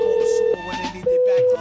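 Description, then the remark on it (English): A phone call being made again rings through the earpiece: two long, steady ringback tones separated by a short gap, with faint murmuring in between and no one answering. “Let's call the John Deere guy back again. Maybe he'll pick up now.”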